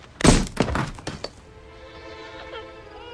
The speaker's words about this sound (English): The brick bounces off the glass and hits his rental, shattering the windshield.